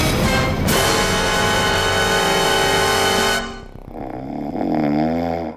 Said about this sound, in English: so it does state your snoring levels are very high, with 1,003 snoring events recorded throughout the night. So this equates to 126 snoring events per hour.